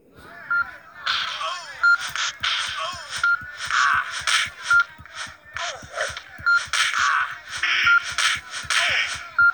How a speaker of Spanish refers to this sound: si escuchamos un ruidito como una alarma ring del lado derecho, debemos apretar la flecha derecha para bloquearnos